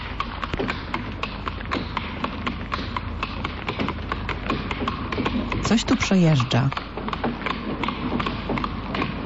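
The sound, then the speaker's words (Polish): Steady, fairly quick hooves of a horse, with something such as a carriage riding behind it, clop on cobblestones throughout, distinct, with a brief voice speaking partway through over the rhythmic clatter. “To jest koń, którego kopytka stukają po bruku, a za tym koniem jeszcze coś jechało.”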